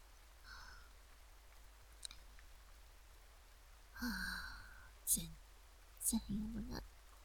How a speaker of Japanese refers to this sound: 雨やめそうにもないし